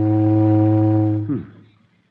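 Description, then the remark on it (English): A loud, steady steamboat whistle blows one long low tone rich in harmonics for over a second, then drops off abruptly and fades to quiet. “I hear steamboat whistle.”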